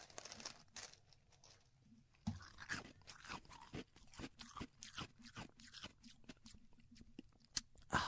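Someone chews ice, with a steady series of sharp, brittle crunches at an irregular rhythm over about eight seconds. No one speaks.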